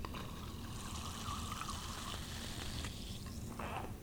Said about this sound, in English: I've just put the glass on the base of the syrup urn, and now I'm dispensing 1 ounce of the syrup. You remove the glass, add the carbonated water.